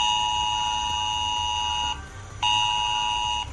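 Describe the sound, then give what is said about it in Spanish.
A loud, harsh Protección Civil emergency alert tone blares from a mobile phone in long sustained bursts: about two seconds of piercing multi-tone sound, a short break, then another burst, over a low background rumble. “esas alertas de emergencia a los teléfonos, de las que tanto se ha hablado”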